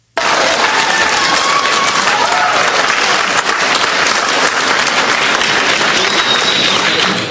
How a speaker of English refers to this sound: The majority of the crowd booing.